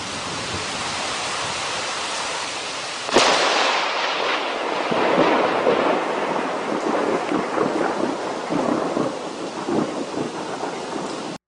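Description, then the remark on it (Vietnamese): A thunderstorm in the evening, heard from an abandoned hut hidden in a forest: heavy rain pours down in a steady, dense hiss, broken by a sudden sharp thunderclap that rolls and rumbles on beneath the downpour. No voices are heard. “Tối đến, vừa lúc chúng tôi tìm được một cái chòi bỏ hoang nằm ẩn trong rừng, thì cơn mưa bão cũng vừa đổ ập xuống.”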